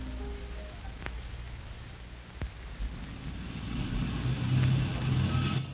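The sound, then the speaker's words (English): A white roadster's engine runs with a steady low rumble and faint hiss, swelling slightly toward the end, with a couple of sharp clicks early on and no voices. “My car's parked at the end of the alley. It's a white roadster.”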